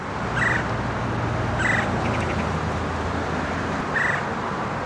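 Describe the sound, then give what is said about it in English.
A black-and-white woodpecker with a bold red stripe on its head flies over a garden fence and gives three short, rolling chirrs toward stopped police cars, spaced a second or two apart, over a steady hiss of outdoor background noise. “Each time a driver was stopped, he'd fly over the garden fence and chirr in the direction of the cars.”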